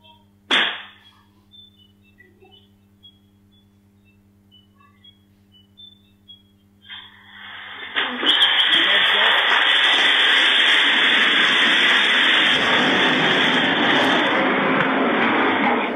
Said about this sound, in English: This is in China. The scooter is going into thermal runaway. You'll hear the popping of the cylindrical cells.